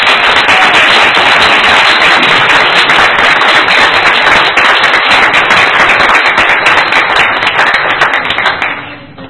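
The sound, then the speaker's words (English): Loud, sustained applause from a crowd, dense clapping that holds steady for about nine seconds before fading out at the end. No voices speak over it. “Let's give Connie McCain a great round of applause.”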